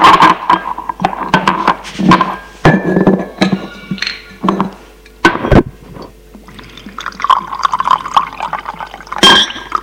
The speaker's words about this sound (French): Et il remplit les deux verres.